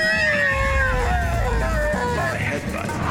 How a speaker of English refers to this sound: This results in a feminine scream.